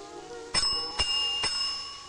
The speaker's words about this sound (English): Homer rings a desk bell near a chandelier and fountain.